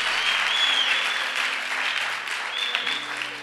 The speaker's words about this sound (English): Now, some of you are not clapping. You are not clapping at all. You are just saying, hey, hey.